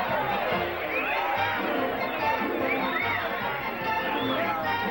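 A rowdy crowd of men cheers and whoops in a saloon, a continuous loud roar of overlapping shouts and excited chatter with occasional higher yells rising above the din.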